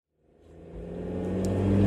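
A car engine revs up and builds steadily in loudness, a deep rumbling roar with a rising tone as Tanya drives furiously and the vehicle speeds along, no voices present.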